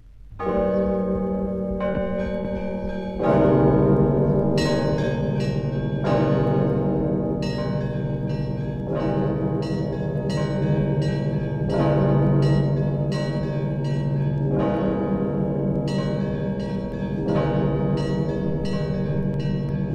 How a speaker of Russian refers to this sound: получил распространение Егорьевский звон, характерный своим плавным и размеренным ритмом. Мощные звуки одновременного удара трех больших колоколов наполняют пространство гармонией, на фоне которой особенно хорошо выделяется звучание мелких колоколов.